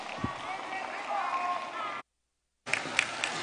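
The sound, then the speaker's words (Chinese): A large audience at the close of a Buddhist dharma assembly claps in thanks to Guanyin Bodhisattva and Master Lu Junhong, a dense, steady wash of applause that cuts off abruptly, then resumes after a brief silence with a few sharper claps standing out. “让我们再次以热烈的掌声感恩大慈大悲的观世音菩萨，感恩大慈大悲的卢军宏台长。”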